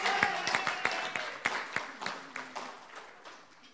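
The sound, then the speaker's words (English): An audience applauds the CCB streaming team, many hands clapping in a dense patter with a few sharper individual claps standing out, fairly moderate in volume and gradually tapering. “So I'd like you all to give the streaming team a wonderful, wonderful round of applause.”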